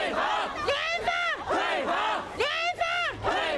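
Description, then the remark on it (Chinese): Hundreds of Tianjin residents hit by the August 12 explosion chant slogans in unison in the rain outside a hotel holding a government press conference, demanding buyback and refusing repairs: loud rhythmic shouted phrases repeating about every second with a sharp, strained pitch, voices overlapping in a dense mass. “天津812特大爆炸地区的数百名居民星期三冒雨在政府举行记者会的饭店前举行抗议，要求当局以实际行动帮助他们挽回这次灾难对他们的个人财产所造成的巨大损失。”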